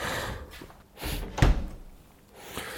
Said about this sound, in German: Wenn du die Tür zumachst, höre ich dich nicht.